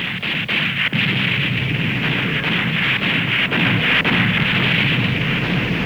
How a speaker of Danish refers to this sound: Et kæmpe projektil på næsten en ton rammer Van der Tann, som ligger langt bagude. Hvilken får skibet til at vibrere som en kæmpe stemmegaffel.